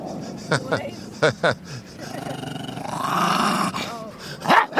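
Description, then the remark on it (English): A collie-type dog growls in a deep, rumbling tone that swells in the middle, punctuated by a few sharp yips and barks, fairly loud. “I can hear a sort of volcanic eruption from deep down. It's a kind of collie, and I don't know what the other breed is.”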